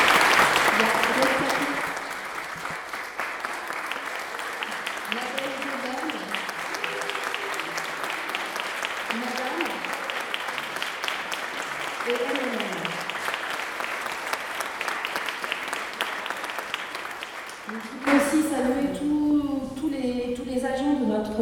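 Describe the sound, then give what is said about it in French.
An audience claps steadily for well over fifteen seconds to applaud the artists, including Le Valet, who took part in an exhibition route about the past 100 years; a dense, even wash of applause with faint voices underneath, before it stops abruptly and a single person starts talking. “Donc il y a Le Valet, je vous invite à les applaudir parce que”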